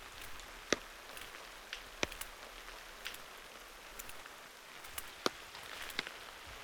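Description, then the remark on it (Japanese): Steady rain patters on an umbrella, with sharp individual drops striking its taut surface at irregular intervals over a soft continuous hiss; no one speaks. “タトンタトンって雨が傘を叩く音が聞こえてくるでしょ。”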